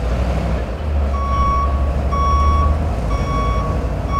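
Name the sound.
garbage truck reversing beeps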